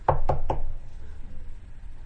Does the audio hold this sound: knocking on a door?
yes